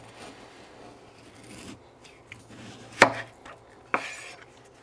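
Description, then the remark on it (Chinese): A knife slices a peeled white radish, its ends trimmed off, in half lengthwise from the top, landing two crisp, sharp cuts against a board a second apart, with faint scraping and handling noises around them, without speech. “我刚刚削完了那个白萝卜，然后去掉前后，然后呢，再从最上面剖半，直立的剖半你的萝卜。”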